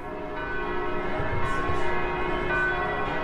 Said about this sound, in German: Die Glocken läuten wieder festlich in Bethlehem